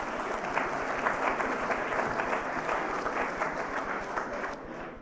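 An audience applauds steadily for several seconds, a dense, even patter of many hands clapping at once that tapers slightly at the very end.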